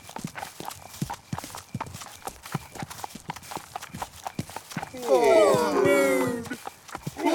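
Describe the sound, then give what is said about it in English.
Hooves clip-clop in a steady, even walking rhythm, moderately loud, as a sheep, a duck, a cow, a hen, a horse and a cat walk along; a short burst of tonal, voice-like calling rises over the hoofbeats near the end. “The sheep, the duck, the cow, the hen, the horse and the cat walk and walk.”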